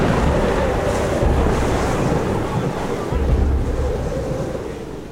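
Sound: storm at sea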